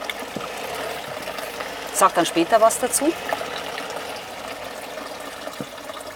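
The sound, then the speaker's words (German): Water pours briefly into a glass, a short gurgling splash of about a second, with a person speaking quietly before and after; it is the third of several waters poured for tasting. “Jetzt kommt das dritte Wasser. So, da kommt das dritte.”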